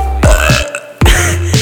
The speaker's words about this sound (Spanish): Se me va a salir un eructo ya.